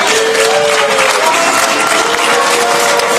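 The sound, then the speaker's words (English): Sustained loud applause from a large crowd of representatives from European Union countries in a parliament chamber, a dense steady patter of clapping mixed with scattered cheers and raised voices, continuing evenly throughout without a break. “The amount of people that were going, yes, we're with you, and clapping.”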